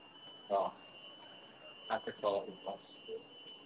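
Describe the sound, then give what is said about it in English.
A security alarm, set off by one of the people present, sounds a continuous, piercing high-pitched tone throughout, steady and unbroken, while people talk in short bursts over it. “Oh, I set the alarm off the blue as well.”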